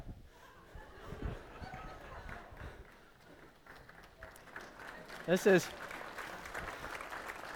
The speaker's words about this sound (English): You guys clap now.